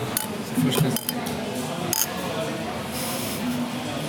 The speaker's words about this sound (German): Alrighto. Prost. Mal anstoßen, ne?